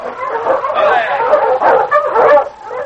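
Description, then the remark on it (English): Several sled dogs pulling a dog sled bark and yip excitedly in a continuous overlapping chorus, fairly loud, with whining tones mixed in as the sled approaches through heavily falling snow. “was trudging along in the heavily falling snow toward his cabin when he heard a dog sled coming along behind him.”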